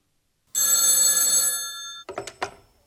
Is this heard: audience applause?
no